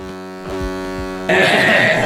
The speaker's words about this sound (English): I'm gonna honk back.